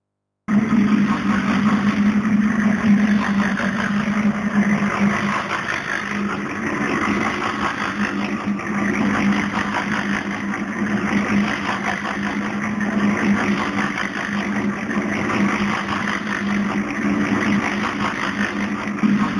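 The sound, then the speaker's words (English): A cement mixer, recorded on the German-Polish border in summer 2018, runs steadily with a constant low engine drone and a grinding, churning rumble, loud and unbroken throughout with no speech. “You will now hear the sound of a cement mixer, recorded on the German-Polish border in the summer of 2018, and this sound registers territorial anxiety and low-boiling, unspoken conflict.”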